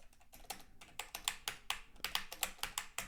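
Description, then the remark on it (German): Rapid, forceful typing on a computer keyboard, as from someone typing with an open microphone during a Teams meeting, a steady stream of sharp clacking keystrokes, with no one talking. “Die tippen ja dann auch so. Die können nicht normal tippen. Die müssen dann so tippen.”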